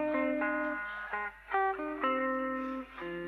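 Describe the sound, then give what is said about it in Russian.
An electric guitar being tuned, with single distorted notes plucked and left ringing, then struck again at shifting pitches in an uneven rhythm. The tone is bright and buzzy, and no one speaks. “Сейчас настроим гитару.”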